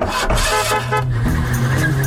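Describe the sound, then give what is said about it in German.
An old car engine chugs steadily while a brassy horn honks in short, repeated toots, fairly loud, with no one talking. “So sind wir früher Auto gefahren.”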